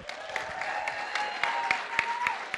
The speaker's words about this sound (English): So up first, let's get a nice big round of applause for our matron of honor,